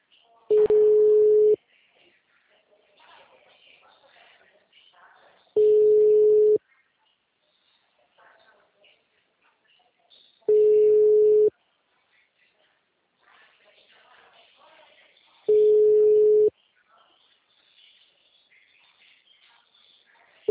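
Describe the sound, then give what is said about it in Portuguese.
A phone line's ringback tone from a call placed on an office telephone: four steady, mid-low pitched buzzing tones, each about a second long, repeating every five seconds, with faint voices murmuring in the gaps between rings. “eu vou te ligar no telefone aqui do escritório, tá?”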